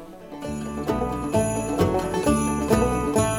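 An upbeat acoustic bluegrass intro to "Jingle Bells", with bright plucked strings and a steady bouncing beat, ringing bells on top, played close and fairly loud, no singing yet.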